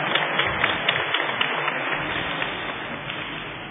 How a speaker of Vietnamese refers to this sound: Chúng ta cho một tràng pháo tay chào đón.